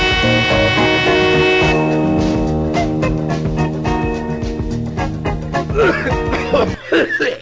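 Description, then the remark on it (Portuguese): Repeated harsh coughing in quick, uneven bursts, fairly loud, over a steady tonal music bed, with a few breathy gasps near the end. “Interrompemos esta tosse para um comunicado importante sobre a tuberculose.”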